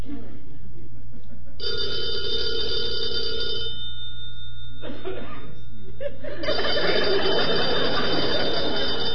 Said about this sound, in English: Answer the phone